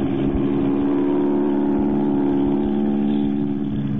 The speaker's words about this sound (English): They're starting their takeoff. You're taxiing right toward them.